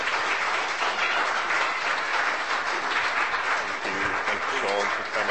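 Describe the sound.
A crowd applauds steadily, a dense wash of many hands clapping at an even, loud level for several seconds, with faint voices mixed in near the end.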